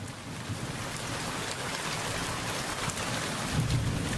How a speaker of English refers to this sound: So far, Monsoon 2021 hasn't disappointed. We've seen dark skies, cooler temps, and yes, rain. Lots of rain.